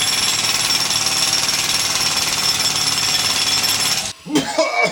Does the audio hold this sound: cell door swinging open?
no